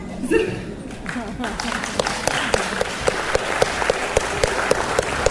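An audience applauds in a dense, steady patter of many hands, with a few sharper claps standing out at a fairly even rhythm and some crowd murmur underneath.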